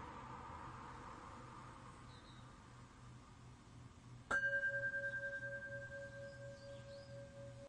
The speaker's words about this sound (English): I'm now going to ring the bell that ends Zazen.